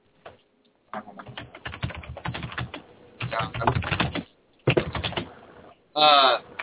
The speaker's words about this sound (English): That's not me. That's what it sounds like when you type, dude.